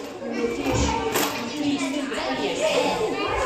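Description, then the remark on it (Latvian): A steady, busy din of many young children's voices chattering and calling out at once in a kindergarten, filling the background at a moderate level without pause. “Lai ir vieglāk iztēloties, fonā izmantoja skaņu efektu no kāda cita bērndārza.”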